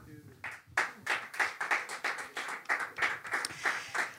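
An audience applauds, its claps merging into steady, rhythmic bursts that repeat a few times a second. It is moderately loud and fills the whole stretch, with no talking.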